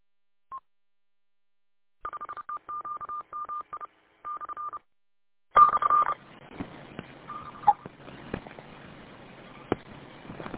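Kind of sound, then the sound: signal or alarm, telephone dialing tones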